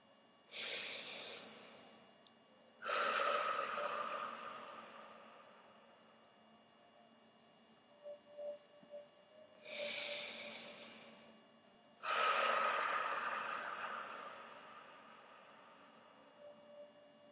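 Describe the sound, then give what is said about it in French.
Slow, deep breathing during a guided breathing exercise: two full cycles of a short airy inhale followed by a longer, louder whooshing exhale, with quiet pauses and soft clicks between. “Vous inspirez, vous voyez ce mot grandir, prendre de l'importance. Vous expirez, vous l'intégrez, vous l'installez dans toutes vos cellules.”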